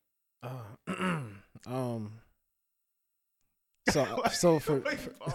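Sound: man clearing his throat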